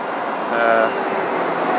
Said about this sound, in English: So I'm riding across Waterloo Bridge now, just hearing a bus go by there